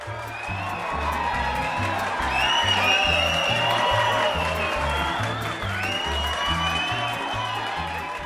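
A big crowd cheers and claps continuously, with a few whistles rising above the roar, while a steady, heavy low thumping beat pulses underneath for the whole stretch.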